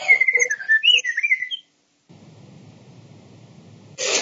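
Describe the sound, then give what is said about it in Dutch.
Bright, warbling birdsong chirps and trills for about a second and a half, sounding like a recording played through a small speaker during a city council meeting, then cuts off, followed by low rumbling noise and a burst of hiss. “Iemand heeft nu vogeltjes aanstaan.”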